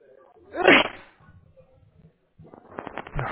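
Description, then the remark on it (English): A single sharp sneeze bursts out loudly near the start, followed by a quiet pause and then a person beginning to talk. “Bless you.”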